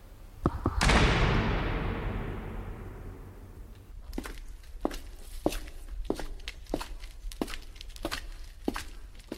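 Footsteps of two people trudge through freshly fallen snow on the way to church on the eve of Christmas Eve, in a steady, crunching rhythm after a loud, broad rushing burst at the start that slowly fades away. No biting wind; grey clouds cover the sky. No voices are heard.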